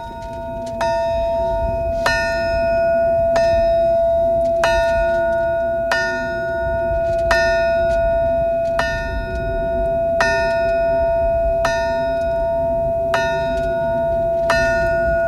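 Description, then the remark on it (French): A metal alarm bell at a Chernobyl memorial monument, its clapper missing, is struck again and again at a steady, unhurried pace, about a dozen clanging rings whose tones blend together over a low, rumbling outdoor background. “C'est le toxin de Tchernobyl.”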